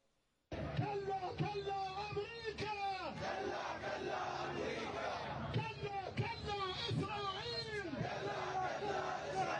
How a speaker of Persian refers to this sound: با فریاد مرگ بر اسرائیل، عراقی‌ها این روزها همبستگی دائمی خود را با ملت ایران همچنان اعلام می‌کنند.